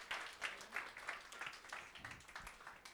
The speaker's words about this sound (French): Vous avez bien vu ? On peut l'applaudir, bien joué.